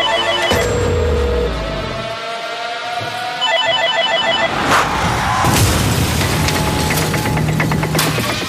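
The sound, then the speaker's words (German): The red push-button telephone in a hospital emergency department rings insistently with rapid, repeating electronic trills, loud, over a busy mechanical background with occasional bumps and clatter; no one speaks. “Das, was ihr hier hört, ist das rote Telefon.”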